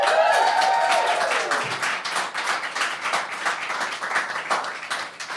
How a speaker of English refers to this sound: Hey, here, keep clapping. Go.